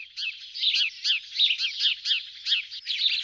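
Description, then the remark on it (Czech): Two sparrows in a tree chirp and squabble over a piece of straw for a nest, in quick, overlapping bursts, a busy run of sharp tweets repeating about three times a second, with no voices. “Na našem stromě, říkáme mu ptačí strom, protože na něm bydlí celá obec ptáků, se teď právě hádali dva vrabci o pěknou slámu do hnízda.”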